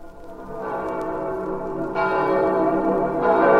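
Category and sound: signal or alarm, church bells ringing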